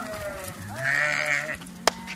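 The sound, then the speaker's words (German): A single Coburger Fuchsschaf sheep on a pasture in front of a large farmhouse lets out a long, quavering bleat, fairly loud, on a warm late-summer afternoon, followed by a brief sharp knock near the end. “Schafe, ein ausgesprochenes Herdentier. Wenn einer kommt, dann kommen sie alle.”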